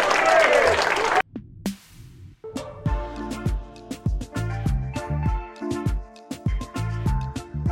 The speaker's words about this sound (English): Give a round of applause to the leader of the Atlanta Braves, Brian Snitker.